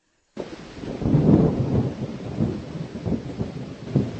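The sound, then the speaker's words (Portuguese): Heavy rain pours steadily and loudly, with deep thunder rumbling and swelling underneath, then rolling on through the downpour. No one speaks. “Depois que todos entraram, Deus fechou a porta do barco e aí ele mandou a chuva.”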